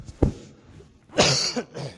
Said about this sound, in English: I've had a bit of a cold, so please excuse me if I cough all over you.